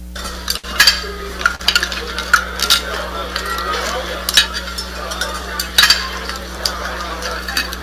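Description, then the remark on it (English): Cutlery scrapes and clacks against a plate as a woman eats, in a steady, irregular series of sharp metallic taps and scuffs, over a low steady hum. “Conversation on hold, the scuffle and clack of her cutlery send out signals not difficult to interpret.”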